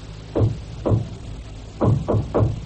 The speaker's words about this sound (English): I'll knock.